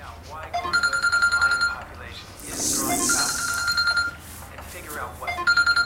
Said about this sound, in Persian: خیلی عجیبه، این خانم دم به ساعت تلفنش زنگ میخورد. خاموش کرده. خب شما به تلفن دومش زنگ بزن.